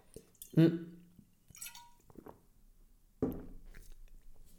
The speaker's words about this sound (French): Bougez pas, je bois un peu d'eau.